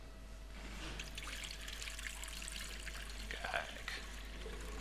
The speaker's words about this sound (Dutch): Wil jij dan ook helpen met het water erin gieten? Wil je helpen? Het gieten? Dat is wel een beetje zwaar, laten we het samen doen.